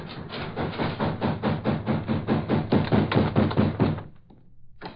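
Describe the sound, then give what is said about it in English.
Heavy, rapid pounding on a door by Nazi soldiers demanding to be let in: a loud, steady barrage of a dozen or more dull thuds, roughly three per second, continuing for about four seconds before stopping abruptly. “Now I'll let them in before they break the door down.”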